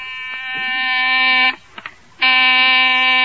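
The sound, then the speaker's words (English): A loud, harsh electric door buzzer sounds in two long blasts, each over a second, separated by a short pause with a couple of faint clicks. “Oh, there's the door buzzer.”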